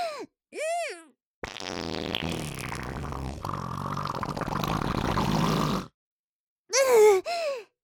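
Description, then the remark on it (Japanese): A string of farts: two short squeaky toots, then a long, loud, rasping blast lasting several seconds, and two more high-pitched squeaks at the end. Close and prominent, with no talking. “下品な音でぶっこいて、匂いも濃いし、おなら臭いの会社ではバレたくないんですけどね”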